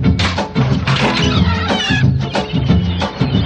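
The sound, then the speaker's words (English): A loud, dense chorus of seagull cries, shrill overlapping squawks and wails rising and falling without pause, with no one talking over them. “Nurse, get those seagulls out of here.”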